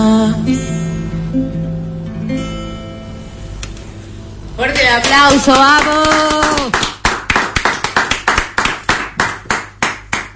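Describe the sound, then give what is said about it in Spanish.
After a held musical tone and an excited voice calling out, a crowd breaks into loud, steady rhythmic clapping in unison, about ten sharp claps in a row. “¡Fuerte el aplauso!”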